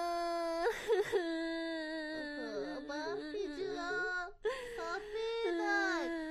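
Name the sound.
child crying and whimpering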